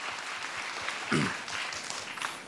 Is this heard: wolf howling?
no